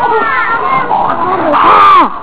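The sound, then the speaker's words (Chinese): A child's voice lets out a rising, strained roaring cry, pitching up and sliding down in one loud, drawn-out burst, a playful vocal imitation of a lion's roar. “哦，有点像的。好，再来狮子。”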